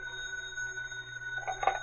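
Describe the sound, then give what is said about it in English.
A telephone rings for Professor Lowell with a steady, sustained tone at moderate volume, swelling briefly louder near the end. No one speaks. “Meanwhile, Professor Lowell also received a phone call.”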